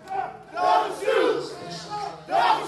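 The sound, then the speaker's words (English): A crowd watching in an overflow viewing space chants the familiar protest slogan from the streets of Ferguson in unison, loud voices rising and falling in rhythmic, repeated shouted phrases with no single speaker standing out. “As Sharpton wrapped up, some of the crowd watching in an overflow viewing space started chanting the familiar slogan from the streets of Ferguson.”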